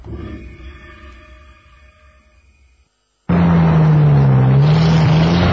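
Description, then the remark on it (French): A truck engine idles and winds down until it cuts out as the truck stops at night in very thick fog, followed after a brief silence by a sudden loud, rumbling roar with a steady low droning tone. No one speaks. “Et bientôt, une fois de plus, le camion doit s'arrêter.”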